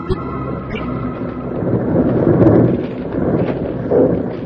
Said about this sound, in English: Jingles were trapped by one of the most deadly perils of the snow country, a snow avalanche started by the two bank robbers high up on the slope. As the great slide swept past the lawman, the outlaws watched it until the clouds of loose snow settled.